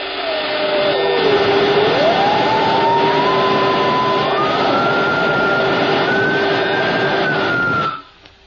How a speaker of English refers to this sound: The next morning, both men were strapped into Horn's infernal machine. There was a great crackling and sparking.